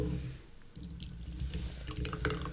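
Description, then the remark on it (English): Wet squelching and glopping as a jello shot is squeezed out of a can, with small dripping bursts over a low steady rumble and no talking. “You just gotta squeeze the can. That's what I found. You just gotta glob it.”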